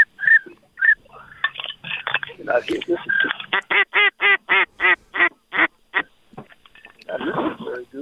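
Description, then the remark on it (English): A quick, evenly spaced run of whistled pintail duck calls, loud, rising into a steady rhythmic series before trailing off, as someone whistles to call a flock of pintail ducks in. It sounds like a hand-blown duck call imitating the birds. “Let's see if you can whistle them in. There we go. Nice pintail call.”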